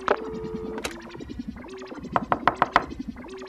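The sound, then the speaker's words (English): A quick run of about five crisp, evenly spaced knocks on Dr. Meadows' door, clear, over light background music with sustained tones; a Speedy Delivery Service courier knocking to deliver a package. “Someone's at the door, Dr.”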